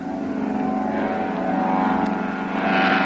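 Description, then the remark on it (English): A steady, droning propeller engine of a seaplane taking off from water and heading toward trees on the other side roars continuously, its harmonic buzz swelling slightly louder toward the end, with a faint wash of rushing noise beneath it. “There he goes. He's off the water. Heading straight for the trees on the other side there.”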